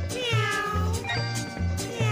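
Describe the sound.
Electric guitar notes slide up and down in wavering glissandos that yowl like a meowing cat, over a bouncy, steady bass pulse in an upbeat band tune.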